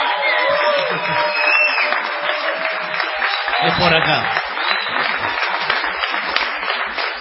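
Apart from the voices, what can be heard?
audience ovation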